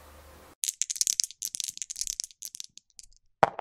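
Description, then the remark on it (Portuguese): A die rattles and clatters in a rapid string of bright, tapping clicks for about three seconds, then a brief pause and one sharper knock as it settles, landing on a four. No one speaks. “Saiu 4 aqui no dado para o The Resistance.”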